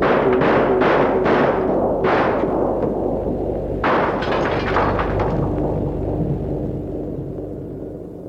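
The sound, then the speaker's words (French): A quick volley of four sharp gunshots, another shot moments later, then a heavier blast that rolls into a long, rumbling decay fading away slowly. No voices. “Des coups de feu.”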